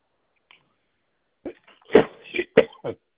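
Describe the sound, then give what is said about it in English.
A sharp sneeze erupts after a moment of near silence, followed by a few short breathy bursts and sniffs trailing off. “Bless you.”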